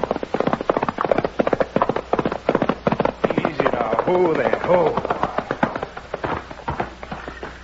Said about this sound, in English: But I did throw a saddle on my horse and start burning up the trails which lead from Dos Rios to Mitt Cummings' huge ranch.